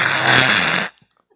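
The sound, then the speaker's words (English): A voice imitates the strange noise of a house furnace coming on: one loud, raspy, rumbling burst, almost like a snore, that holds steady for just under a second and then cuts off abruptly. “The furnace came on with a weird...”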